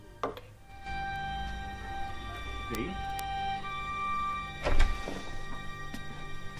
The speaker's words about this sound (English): She bangs the mantelpiece angrily.